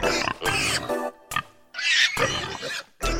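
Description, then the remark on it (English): Pigs oink and grunt loudly, a string of harsh snorts and squealing bursts separated by short pauses, with no voices. “Okay, the pigs are going to wallow in the mud in our messes.”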